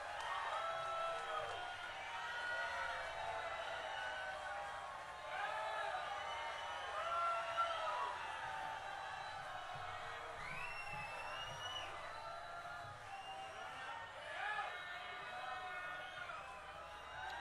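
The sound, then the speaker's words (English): A large concert audience in Niagara Falls cheers and applauds a band without a break, a dense steady roar broken by high whistles and whoops that rise above the crowd noise. “And keep your hands going a little bit.”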